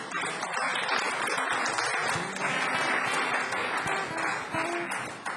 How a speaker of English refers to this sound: So I really do think you guys are everything that's right about music, so give yourself a warm round of applause right here.